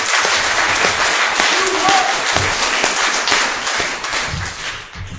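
A crowd applauds steadily, a dense wash of many hands clapping at full strength for about five seconds with no words spoken, tapering slightly toward the end, a round of applause thanking the speakers and the host of the afternoon event.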